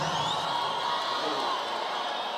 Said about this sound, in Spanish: Un fuerte aplauso.